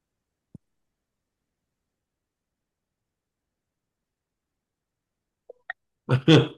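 A short burst of hand clapping comes at the very end, loud against near-silence, with a soft low thump and a couple of faint blips before it.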